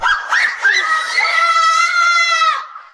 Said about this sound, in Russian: Вот визжат, а? Не, ну, горки-то тут, конечно, классные. Я бы тоже покатался. Кстати, они который раз уже съезжают.